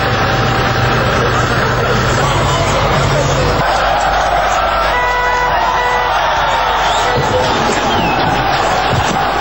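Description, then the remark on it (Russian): Thousands of Warsaw residents on Felix Dzerzhinsky Square clap and murmur in a dense, continuous wash of applause during the demolition of the Dzerzhinsky monument, installed in 1951, on 17 November 1989, in an archival recording, with a low mechanical hum underneath that cuts out partway through. “Как можно услышать на архивной записи, снос установленного в 1951 году памятника проходит под аплодисменты собравшихся.”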